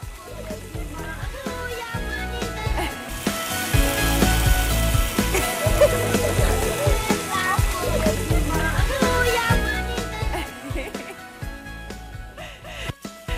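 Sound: water flowing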